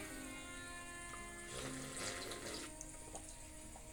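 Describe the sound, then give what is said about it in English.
Water runs steadily from a tap, a soft continuous rush that swells a little louder partway through before settling back to a quiet, even flow, with no voices. “That was water.”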